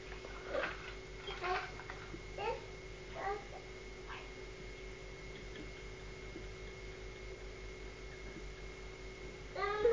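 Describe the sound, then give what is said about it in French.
A sick baby cries in short, fussy whimpering bursts, several in the first few seconds and one more at the end, fairly quiet over a steady low electrical hum. “Regarde, le bébé est encore malade, il pleure.”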